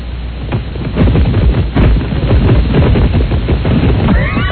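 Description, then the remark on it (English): A chicken flaps its wings in a loud flurry of rapid, papery beats and rustling that runs continuously for several seconds, with a brief high squawk near the end. “That's like the sound of a newspaper like this. Right. That is the worst. Chicken flapping wings.”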